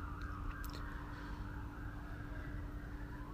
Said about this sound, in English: Oh man. I wonder if someone is okay because got the fire sirens going on.